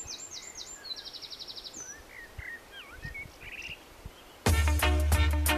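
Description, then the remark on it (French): Birds chirp and trill in varied, quick phrases over a soft outdoor hiss, a rapid rattling trill among them, until music with a heavy bass beat abruptly cuts in near the end. “On arrive tout doucement avec les oiseaux.”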